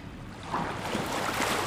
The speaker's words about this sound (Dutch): We kijken uit over de zee. Het Skagerrak. We kijken uit op de wildste golven van Europa.